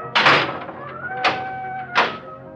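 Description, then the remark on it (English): A heavy metal jailhouse cell door slams shut with three loud clangs spaced about a second apart, each leaving a lingering metallic ring between impacts. “Only when the door had slammed shut did Anna begin to cry.”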